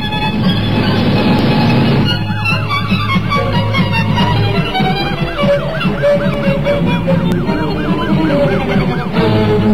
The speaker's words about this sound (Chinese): 警笛使哈格纳更加慌乱，他只顾开车不顾方向，撞到了一个过路人。